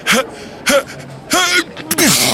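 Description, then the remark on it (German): A voice imitates a faked sneeze: three sharp, breathy gasps build up, then a final burst comes out muffled and smothered into a handkerchief, fairly loud. “Nieser 2, der Vorgetäuschte, holt Luft, läuft rot an und dann verschwindet der Nieser so im Taschentuch.”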